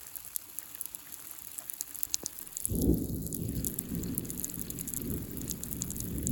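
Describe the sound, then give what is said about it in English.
Steady rain patters and hisses throughout, and about halfway through a deep rolling rumble of thunder swells up and lingers beneath the downpour. No voices. “Now it's raining.”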